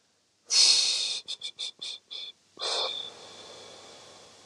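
A long, airy breath drawn in, then a quick run of five short puffs, followed by a slow, drawn-out exhale that gradually fades, taken as a deep breath in a guided meditation before a drum journey. Breathy hiss throughout, with no talking.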